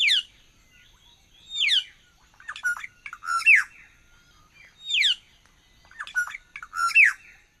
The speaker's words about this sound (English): Yes, a lovely sound, and now I know what it was. It's the Australasian figbird.